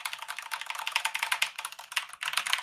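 Fast, steady typing on a mechanical keyboard with brown switches: a dense stream of crisp key clacks with no pauses and no voices.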